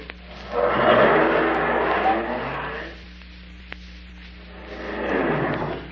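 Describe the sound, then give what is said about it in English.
A car engine revs up and pulls away over a few seconds as the car is driven off to be parked, then quiets before a second surge of engine noise rises near the end. “Just park my car, lock it, and bring me the key.”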